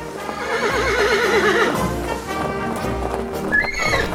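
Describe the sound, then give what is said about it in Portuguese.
Several horses whinny loudly with wavering, trembling calls while hooves clop steadily underneath, a busy scene with no voices. “Talvez aquela cena com os cavalos ali nas margens plácidas do riacho do Ipiranga, né?”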